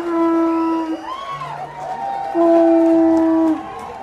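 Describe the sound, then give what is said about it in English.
A conch shell is blown in two long, steady, horn-like blasts, with a shorter lower note between them, over a crowd cheering and clapping as a newly married same-sex couple is greeted after their wedding ceremony. “The couple was greeted with cheers, applause, and the sound of a conch shell.”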